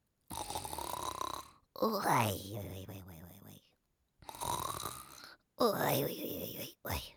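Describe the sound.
A storyteller's voice imitates the grandfather sleeping in a children's tale: two rounds of drawn-out, rumbling inhale-and-exhale snores with gurgling, throaty texture, fairly loud, separated by short silences.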